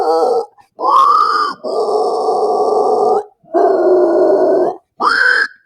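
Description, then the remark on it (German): A human voice performs the death metal inhale growl vocal technique: five sustained harsh, rasping inhaled growls separated by short breaks, loud and gritty like a pig's grunt. “Aber dieses Inhale ist halt super easy.”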